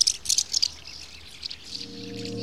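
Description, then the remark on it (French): A few shrill, high-pitched screaming calls of common swifts burst out in quick succession, followed by softer, thinner swallow twittering, with a low steady tone rising underneath toward the end. “Leurs cris sont souvent pris pour des cris d'hirondelles. Or, ils sont très différents. Écoutez plutôt.”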